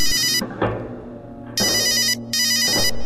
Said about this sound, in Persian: تلفنم زنگ میخوره و مشغول حرف زدن میشم